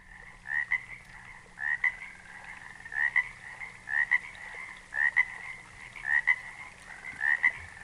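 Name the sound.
frogs croaking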